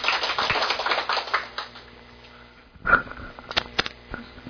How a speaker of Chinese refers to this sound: 好来，掌声，嗯。